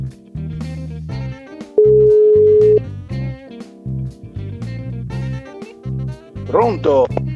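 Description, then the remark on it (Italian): A single steady ringback tone of an outgoing phone call sounds for about a second, clear, surrounded by busy background music and voices. “Squilla.”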